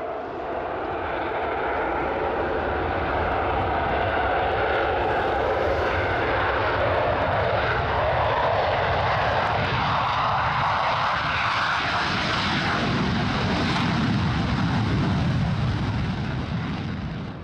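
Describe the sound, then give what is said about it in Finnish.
A steady, loud engine drone from an airliner in flight fills the whole recording, a broad rumbling roar with a low hum underneath and a faint rising whine in the upper range, continuous and without any voices. “Heidän ratsunsa lentää edelleen kuin halvaantunut ankka.”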